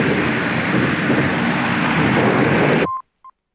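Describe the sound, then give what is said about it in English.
A loud, sustained roaring explosion, a huge ball of flame erupting from underneath fallen rocks, rumbles steadily for about three seconds, then stops abruptly, followed by two short, high-pitched electronic beeps of a Morse signal. “A huge ball of flame erupts from underneath the fallen rocks.”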